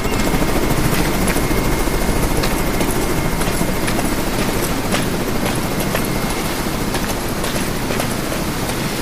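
A helicopter's rotor drones loudly and steadily, with a dense low-end roar and faint rhythmic blade chop throughout as it sets down in front of a main building, with no voices.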